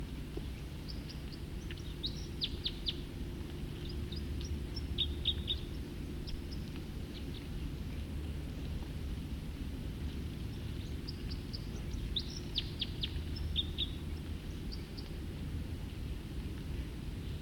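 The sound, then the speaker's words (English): Bird song in two bursts of quick, high chirping notes separated by a quiet pause, fairly faint over a steady low rumble of background noise; no one speaks. “Start recording song again. Probably the same bird.”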